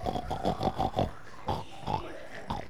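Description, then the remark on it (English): Children in a class lesson imitate a pig with a quick run of rhythmic oinking grunts, then a few scattered snorts after a short pause, voiced fairly loud with no ordinary talk. “How would we imitate a pig?”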